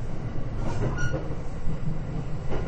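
Steady low rumble of a Takasaki Line Rapid Service Urban commuter train bound for Ueno, running on rails and heard from inside the car, with faint rhythmic clatter and a brief high squeal. The next station is Kuragano. No voices.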